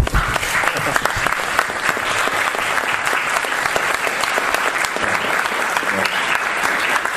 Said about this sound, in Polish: A jak chcecie oklaski, to możemy dla Pana Jezusa ręce do góry i dla Pana Jezusa oklaski.